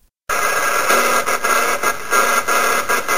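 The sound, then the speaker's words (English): The Morse code distress call of the Titanic, call sign MGY, buried in loud, hissing shortwave radio static, pulsing with short rhythmic breaks for a few seconds, with no voices. “That's the Morse code stress call for the Titanic, which was the MGY.”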